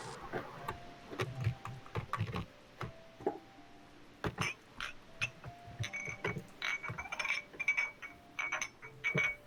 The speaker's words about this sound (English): Very good fidget sounds.